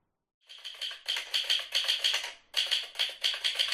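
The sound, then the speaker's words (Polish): Rapid, dense clatter of typewriter keys in quick succession, running in bursts with one short break, crisp, no voices. “Nie odkłada tutaj maszyny, właśnie maszyny do pisania na bok.”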